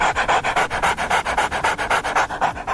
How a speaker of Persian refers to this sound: گوریل ها و بعضی از پستاندارای دیگه وقتی قلقلک داده میشن مثل انسان ها واکنش نشون میدن. البته میمون ها چون دستگاه صوتیشون فرق میکنه صدای خنده شون بیشتر شبیه نفس نفس زدن سگه یا کسی که حمله آسمی بهش دست داده.